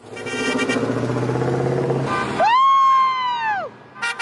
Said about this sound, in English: This was the scene in tiny Montpelier, Idaho in late April. Hundreds of cars slowly driving up and down the town's main street, blaring their horns.